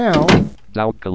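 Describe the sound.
A short creaky door-closing chime, the instant messenger's alert as a contact signs off, rings out briefly and is followed right away by a man speaking a few words.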